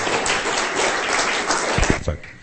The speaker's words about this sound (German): Wir geben einen Applaus und Gott ein Dankeschön.